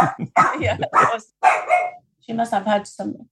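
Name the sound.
dog barking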